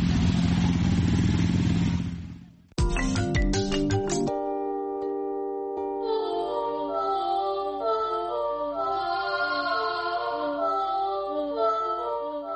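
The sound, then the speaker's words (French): A motorcycle engine roars loudly for about two seconds, then cuts off abruptly as a bright musical jingle with plucked and sustained tones takes over. “Le principal argument, la moto, c'est la liberté.”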